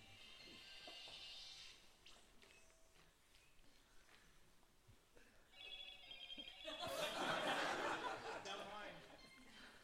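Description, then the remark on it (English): A mobile phone rings in a room during a Bible teaching, with a bright, repeating electronic tone that rises louder toward the end, while people murmur and shift around in the background. “somebody's phone's just doing something there.”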